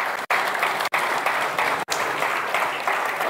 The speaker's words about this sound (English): There we go. Now it's safe to sit down. I got a clap.